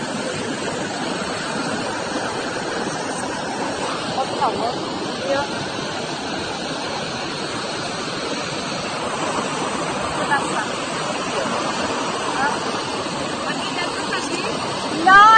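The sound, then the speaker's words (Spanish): A steady, roaring rush of a waterfall, heard from metal grates directly above it, fills the whole recording with dense, constant noise, while people speak briefly over it. “En las rejillas estas, totalmente encima de las cascadas.”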